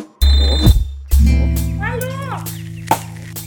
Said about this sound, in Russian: Телефон.